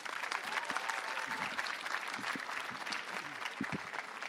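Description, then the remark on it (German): An audience at a poetry slam at a fair stand in Leipzig applauds steadily as Yusuf Rieger is welcomed to the microphone for the first text. A dense wash of many hands claps at an even level for several seconds, with no voices standing out. “An diesem Mikrofon großen Applaus für Yusuf Rieger.”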